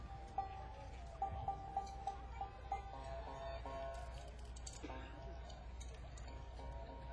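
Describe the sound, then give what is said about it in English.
A pair of cow rib bones, played as a rhythm instrument, clack together in a quick, even rhythm, a run of sharp wooden clicks near the start, then looser taps over a steady noisy background with some faint voices. “These instruments are called the bones, and that's what they actually are. They're cow rib bones.”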